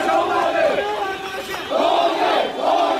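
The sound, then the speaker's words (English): Tens of thousands of protesters in Yangon, protesting a military coup, shout anti-military slogans in unison and demand the release of Aung San Suu Kyi and other detainees: loud rising-and-falling chants repeating in strong rhythmic bursts with a brief dip between them. “The protests aren't just continuing, they're growing, with tens of thousands turning out in Yangon, shouting anti-military slogans and demanding the release of Aung San Suu Kyi and others detained since last Monday.”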